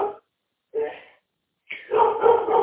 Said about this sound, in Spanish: Ladra mi perro, pero... pasan esas cosas en la familia.